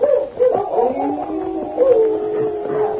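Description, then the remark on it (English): Dogs at Larson's cabin howling, their long wavering howls overlapping and rising and falling without a break for a few seconds, at moderate volume with no voices. “For several minutes, the only sounds came from the horses' hoofs and the dogs at Larson's cabin.”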